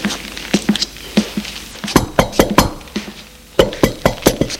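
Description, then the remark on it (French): Sharp knocking on a bedroom door comes in several quick bursts of four or five raps, separated by short pauses, with no one speaking. “L'on a frappé à la porte.”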